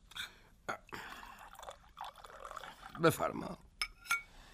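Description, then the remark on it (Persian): Water splashes and trickles into a cup in a short pour, with a brief spoken word just before the liquid sound rises and fades. “پیاله آب بنوش.”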